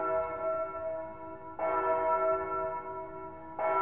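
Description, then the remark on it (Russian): A tower clock bell tolls slowly to strike midnight, three resonant strikes about two seconds apart, each ringing out and overlapping the fading hum of the last, with no voices. “Когда башенные часы пробили полночь”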